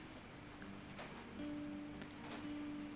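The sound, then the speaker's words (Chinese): Soft, steady rain hisses outside in Bali, a continuous quiet patter with a couple of slightly stronger gusts, while a low electrical hum joins partway through. No one speaks. “此刻巴厘岛正在下雨，有一种非常滋养的气氛，希望我能将这个气氛带给大家，让大家感受一下像水一样流动自然的状态。”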